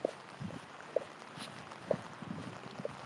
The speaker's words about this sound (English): I don't know if you can hear the clickety-clackety of my boots, but they're actually kind of loud.